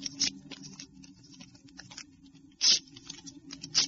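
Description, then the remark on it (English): Dry paper sounds: light scratchy scribbling as the numbers 1 to 4 are written on slips of paper for drawing lots, broken by a few sharp ripping bursts as slips are torn, with no one talking. “Wait, I'll write them on some slips of paper.”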